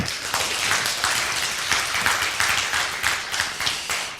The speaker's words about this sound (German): Bitte einen ganz großen Applaus,